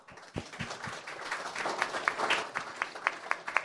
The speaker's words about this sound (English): Yay! A big applause.